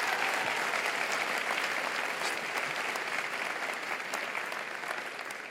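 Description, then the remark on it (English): An audience claps for a colonel who has just spoken and for his son, a dense, continuous wash of applause that stays loud throughout and eases off slightly toward the end, with no voices standing out. “Give his son a huge round of applause.”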